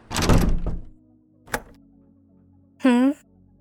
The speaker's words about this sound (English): I just locked the door, yeah. So that no one interrupts us.